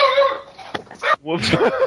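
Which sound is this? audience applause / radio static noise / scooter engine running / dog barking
dog barking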